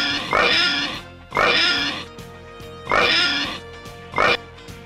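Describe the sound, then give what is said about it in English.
Four loud, squealing pig oinks, voiced by people imitating a pig, come in uneven bursts about a second apart, prominent with no talking in between. “Okay, let's get the oinks.”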